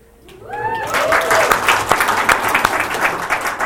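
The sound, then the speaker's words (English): An audience bursts into applause, with a couple of rising whoops at the start, then dense, steady clapping that stays fairly loud throughout without any talking over it. “That's not just a cheap applause line.”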